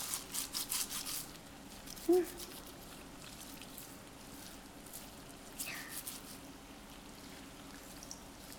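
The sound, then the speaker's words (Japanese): Soft scratchy rubbing of shampoo lather in hair, piling the head with fluffy foam: a quick series of short strokes at first, then quieter hiss and another brief flurry of rubbing later on. “今のあなたの頭、泡ですごいモコモコよ。”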